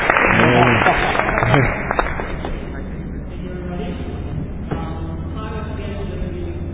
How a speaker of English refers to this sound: So everyone, welcome her. A round of applause.